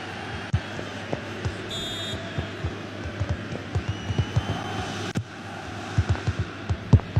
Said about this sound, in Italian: Che stai facendo? Che stai... Sento tamburellare sul microfono.